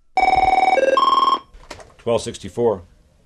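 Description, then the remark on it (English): A telephone rings once at the United Auto Workers Local 1264 office in Sterling Heights, Michigan, a rapid trilling electronic warble with a few shifting tones lasting over a second, followed by a man's voice answering. “fielding phone calls from anxious and confused Chrysler workers.”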